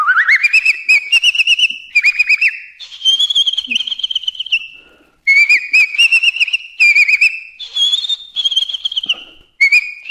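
A person whistles a warbling, trilled tune up close, fairly loud and alone, in several bright phrases that rise and fall in pitch, separated by short pauses.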